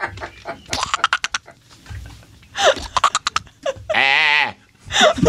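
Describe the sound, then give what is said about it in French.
A goat bleats once, a loud, wavering, vibrato-laden cry lasting about half a second, surrounded by sharp rustling and clattering bursts. “Là, il y a une chèvre.”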